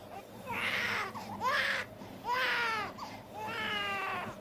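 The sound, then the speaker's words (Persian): A baby cries in repeated, wailing bursts with short gasping pauses between them, loud, with a low hum of background noise underneath. “بابا میگم خفش کن. اصلا برای چی موقع ساعت شروع تو با بچه اومدی بترو؟ خود بچه هم اینطوری اذیت میشه.”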